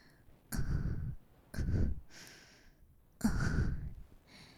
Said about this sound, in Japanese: もっと近くで。私の吐息一つすら逃がさないように。観察するんだ。聞こえてるかな、私の吐息。